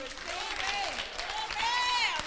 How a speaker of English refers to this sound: Clap your hands.